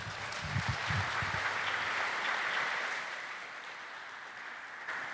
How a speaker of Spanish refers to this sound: Por ahí alguien decía, luego lo digo, pero aplausos a los jóvenes, gracias.